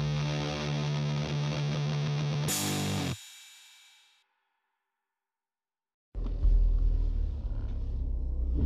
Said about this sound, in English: What the fuck is this bus doing? Just kind of camping out here. That's annoying.